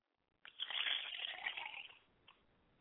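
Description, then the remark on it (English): Liquid is poured as a libation toward the south during a ritual, a steady splashing stream for about a second and a half, moderately loud, then trails off with a brief final drip-like splash. “I pour libations to the south, and I say Ashe.”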